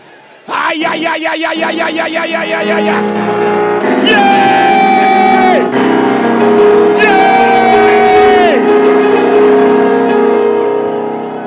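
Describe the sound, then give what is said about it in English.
An audience shouts loudly together during a sermon about believing the word of God, a dense, sustained roar of many voices with rising whoops and cries that swell twice, lasting over ten seconds. “Somebody is sitting and asking, why are these guys shouting?”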